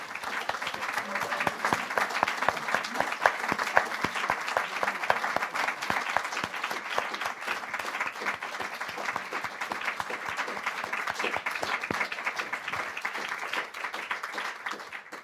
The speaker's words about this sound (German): Ein großer Applaus an euch beide für eure Einblicke, für eure Informationen und für eure Ehrlichkeit. Ich freue mich sehr, dass ihr da wart. Ein Applaus an euch.